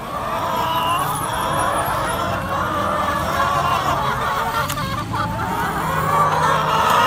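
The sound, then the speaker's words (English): A small flock of chickens, kept under bird flu movement restrictions, clucking and murmuring steadily throughout over a dense, constant background rumble, with no talking. “Bird flu means that our little flock's movements have been restricted”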